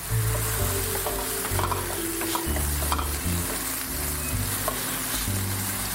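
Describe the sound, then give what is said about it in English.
Onions sizzle steadily in a hot pan over medium-low heat, a continuous crackle and hiss with occasional scraping and clinks as they're stirred. No one speaks. “All right, while these onions are sizzling, I'm gonna turn the heat to medium-low and stir them occasionally.”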